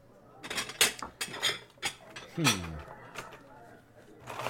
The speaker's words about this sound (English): So let's have a wee look in the unopened drawers and cupboards in here. Okay. They start rummaging.